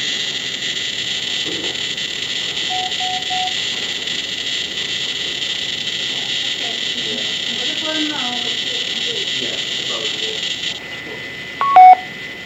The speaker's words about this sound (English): That's the end of a chunk of data. So that's how we hear data coming via an acoustic modem.